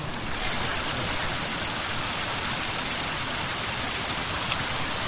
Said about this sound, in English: This is a little stream coming down and splashing over a rock. Let me try to capture that.